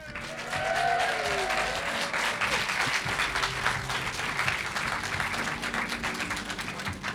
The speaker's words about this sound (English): And thank you, our lovely, winning, fabulous Green Man Festival audience. Please give yourselves a big round of applause.